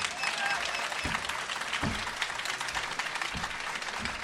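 Audience applause: a dense, steady wash of many hands clapping at even loudness throughout, with a few sharper thumps or cheers poking through the crackle.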